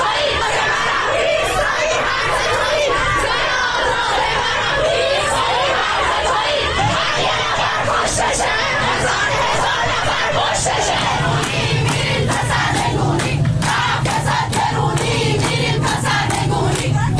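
A large protest crowd against the Islamic Republic government, in Najafabad or Bandar Anzali, Iran, on Sunday 18 Dey, shouts and chants together in a dense, continuous roar of many voices, with sharp bursts of yelling and scattered cracks or claps growing more frequent toward the end.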